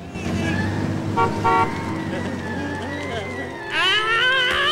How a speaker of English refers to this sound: The police car pulls away from the van.